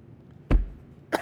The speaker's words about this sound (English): Oh, you're still dying? That's fine. Continue coughing. Don't worry about it. My fucking throat.